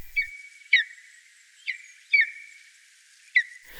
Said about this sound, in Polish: Może się pojawić też gdzieś orlik krzykliwy, który w Bieszczadach dość licznie występuje. Bardziej piskliwy głos. Na co dzień orlik posługuje się krótkim, piskliwym głosem. Tak jak w nagraniu Jarosława Matusiaka na portalu Xenocanto.